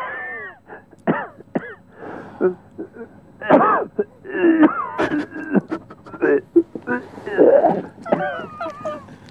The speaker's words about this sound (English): Do you want any cough? I can't give you any very good coughs today because, unfortunately or fortunately, I'm having a day almost free from coughs. But if you like me to try and cough whatever I can, I will do.